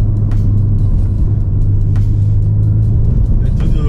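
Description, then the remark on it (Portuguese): A car drives steadily along a winding mountain road in the Maranello region, its deep engine hum and road rumble loud for the whole stretch, with a few faint ticks and clicks scattered over the drone. “Ainda mais nessa estradinha aqui de montanha que eu tô na região de Maranello, que convida você a interagir com o carro, né?”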